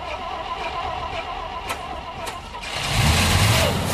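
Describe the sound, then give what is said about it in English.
A heavy truck engine cranks with a couple of sharp clicks, then catches and roars louder, settling into a steady, rumbling run. The engine works, but the truck's prop shaft is missing. No voices. “The chairman's engine works, but the prop shaft is missing.”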